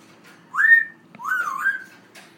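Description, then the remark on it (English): A pet parrot named Banjo whistles two clear, gliding notes, the first rising and short, the second longer and wavering, as she says hello, with no one talking. “She's a great bird. Oh, now she's saying hello and...”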